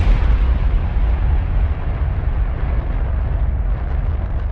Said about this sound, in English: After a wait she could not measure, the rocket's engines roared to life.